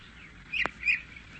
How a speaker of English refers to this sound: Just sitting there on the bench. Birds are tweeting, singing.